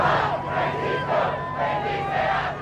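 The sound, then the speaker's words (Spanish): A large crowd shouts, cheers and claps to welcome Pope Francis on his arrival on US soil at Andrews Air Force Base outside Washington, in Maryland, forming a dense, continuous roar with a few high sustained calls rising above it, loud and steady throughout. “Horas antes, Francisco fue recibido en suelo estadounidense entre gritos y aplausos.”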